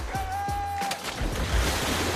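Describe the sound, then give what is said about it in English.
Several quick splashes as people jump into a swimming pool, followed by a steady wash of churning, sloshing water. Fairly loud, with no voices. “They all jump into the pool.”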